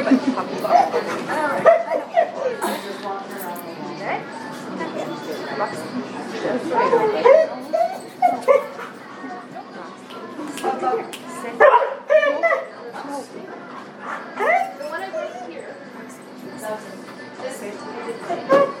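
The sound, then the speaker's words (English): A puppy yips and barks in short, scattered bursts amid a busy, noisy crowd at a dog and puppy event, with people chattering throughout. “Anybody want to hold the puppy so you have a picture?”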